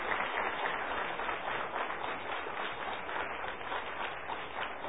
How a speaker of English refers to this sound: How about a round of applause for these three guys?